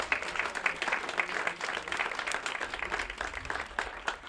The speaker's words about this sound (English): Can I have a round of applause for all of that?